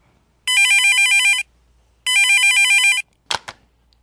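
A mobile phone ringtone for an incoming call from a boyfriend plays two bright, warbling electronic bursts about a second each with a pause between, followed by a couple of short clicks, with no voices.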